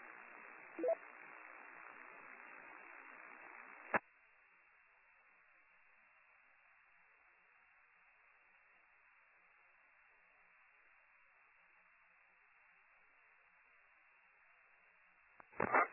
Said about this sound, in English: I guess he says the interference and the weak repeater I'm hearing, this might be one of my radio here, is not interfering with me, so that's good news.